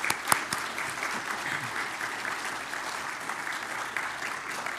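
A crowd of people claps steadily for several seconds for a newly baptized person at a baptism certificate presentation, a dense, even patter of many hands with a few sharper individual claps standing out near the start.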